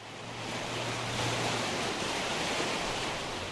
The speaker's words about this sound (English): Lowell is susceptible to flooding. This is where the Flat River dumps into the Grand River.